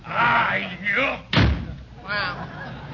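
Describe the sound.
A door slams shut once with a loud, sharp bang partway through, while people talk before and after it.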